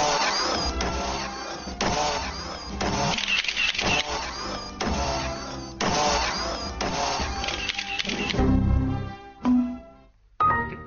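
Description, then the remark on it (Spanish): A busy mechanical transformation effect of whirring servos and rapid clicks in repeated bursts, loud, as a transformer monarch rises in a demonstration of transforming into an official car, ending with a few separate clanks and a short gap. “Se transforma, según acaban de explicarnos, en coche, concretamente en coche oficial.”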